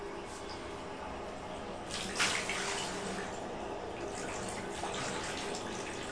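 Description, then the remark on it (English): Water pours and splashes steadily into a bathtub, a continuous rushing sound that briefly grows louder and brighter partway through before settling back to an even flow. “The water goes down to a hole.”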